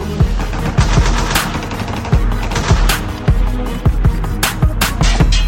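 Rapid bursts of machine gun fire crackle loudly and continuously, with sharp overlapping shots and heavier thuds layered over a rumbling, chaotic battle backdrop.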